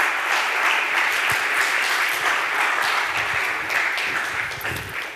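Sustained applause from an audience welcoming a guest, a dense, steady wash of many hands clapping at once, loud throughout and tapering slightly toward the end.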